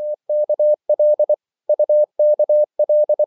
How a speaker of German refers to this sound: Morsezeichen, klar und deutlich, klicken in die Stille.